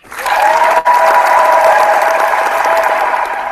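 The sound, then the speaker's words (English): Steady, loud applause from a crowd for the Davis Cup winners, a dense wash of clapping sustained for a few seconds with a brief dip early on, then tapering slightly toward the end. “So let's give all the winners a round of applause for in Davis Cup.”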